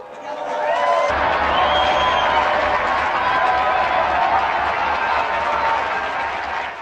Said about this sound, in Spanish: Unidos, pues, a cuantos profesan especial devoción por la Eucaristía y a los franciscanos descalzos, brindemos nuestro sincero aplauso a San Pascual Bailón.